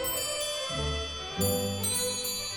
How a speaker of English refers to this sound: Here at the British Horological Institute in Newark, time is everywhere, ticking, striking, chiming.